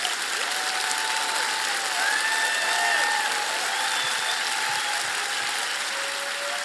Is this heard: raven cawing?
no